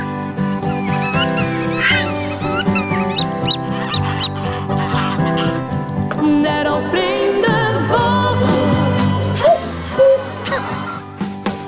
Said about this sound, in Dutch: De jingle die hebben we daarnet voortijdig al gelost, die zullen we nu officieel geven.